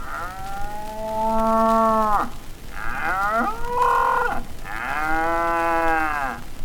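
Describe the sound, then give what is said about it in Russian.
A cow moos three times in long, drawn-out calls, each rising and falling with a strong harmonic tone, loud with brief pauses between them. “Например, эта корова, это насекомое.”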